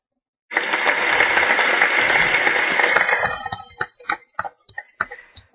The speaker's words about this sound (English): Well, let's get you a little bit of applause for that successful implementation.